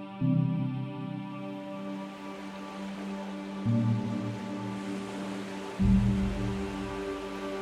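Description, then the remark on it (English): Ocean waves slosh and lap steadily beneath a pier, with three heavier swells rolling in at intervals over a constant low wash, fairly soft, with no voices. A person stands knee-deep in the waves at night under a full moon, washing a teacup. “I wash my teacup in the waves beneath the pier, standing knee-deep.”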